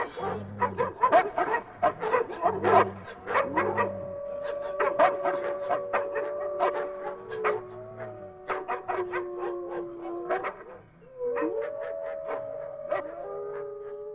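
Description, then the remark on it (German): Wolves, men turned into wolves for the night, snarl and bark in rough bursts as they fall upon guests at a castle, then several long, wavering howls rise and overlap, sustained for many seconds with no talking. “stürzten sich Gisas Männer, für die Nacht wieder zu Wölfen geworden, auf die Gäste.”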